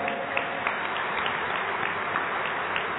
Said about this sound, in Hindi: सर्वप्रथम Indian army, जो Indian army से आए हैं इस सभा में, वो प्लीज अपने स्थान पर खड़े होंगे। भारतीय सेना, एक बार जोरदार तालियां।